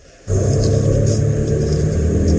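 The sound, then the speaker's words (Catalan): A steady, low engine rumble from inside a car, with everyone now seated inside, starts abruptly after a brief quiet moment and continues evenly, with a faint airy hiss above the deep drone. “Ja són tots dins el cotxe.”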